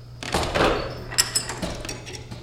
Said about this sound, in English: At the Washburn Observatory on the UW-Madison campus, astronomy instructor and science historian Jim Lattice is about to unlock a shutter to the night sky.